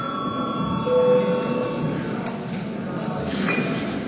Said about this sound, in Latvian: Kolēģi, ir pienācis laiks pārtraukumam. Lūdzu zvanu.